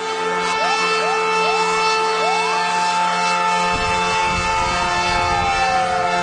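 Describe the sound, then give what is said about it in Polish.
The siren of a new fire engine of the volunteer fire brigade in Mierzyce sounds loud, its repeated rising wails layered over a steady horn-like tone, with a deep engine rumble joining about halfway through. “Nowy wóz strażacki w jednostce OSP Mierzyce to duży wydatek, duże środki i jednocześnie duże wsparcie.”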